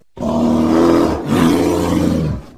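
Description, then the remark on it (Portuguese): A bear roars twice in quick succession, deep and growling and loud, with a brief break between the two long bellows and no talking. “solta aquele rugido do urso maravilhoso, porque é hora de falar de Chicago Bears.”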